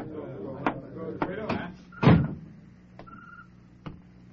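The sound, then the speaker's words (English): A heavy tavern door swings and shuts with a solid thud, surrounded by several sharp knocks and clatters, while a crowd murmurs indistinctly in the background. “I got up then and pushed my way through the crowd to the door of the tavern.”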